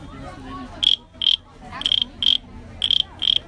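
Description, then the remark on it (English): Bright, chirping clicks from a carved wooden cricket instrument, carved down the middle with two solid ridges, sounding in three paired bursts at a steady rhythm, fairly loud over faint background noise. “Can you play us the cricket too?”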